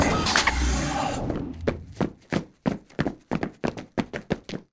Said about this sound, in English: Opening airlock now. The door opens and two aliens walk in.